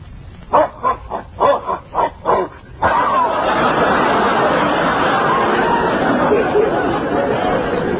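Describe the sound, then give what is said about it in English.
Dogs bark in a quick, rhythmic run of about six loud barks, then the sound gives way to a dense, continuous wash of noisy chatter that fills the rest. “Now, hold on, dogs.”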